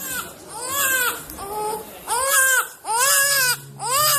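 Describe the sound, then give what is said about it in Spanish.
A child cries loudly in repeated wailing bursts, each rising and falling in pitch, with brief gasping pauses between them and no talking. “Y de repente se cuela el llanto de un niño, pero vamos, directamente en la charla y en la comida.”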